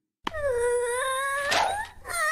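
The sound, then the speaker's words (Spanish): An infant son's loud whining howl holds for about two seconds, its pitch wavering up and down, then breaks briefly before the cry resumes. No one speaks over it. “¡Oh, qué sonido molesto, hijo! Ya, ¿por qué no dejas de llorar como una perra?”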